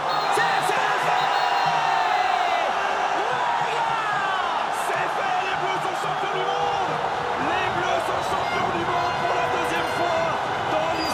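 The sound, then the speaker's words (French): A dense, loud crowd in France roars continuously, with overlapping shouts, whoops and indistinct voices filling the scene in a sustained wall of celebratory noise. “J'ai pris un putain de bain de foule dans une putain de marée humaine.”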